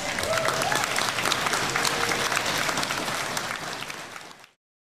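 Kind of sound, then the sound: crowd, applause from students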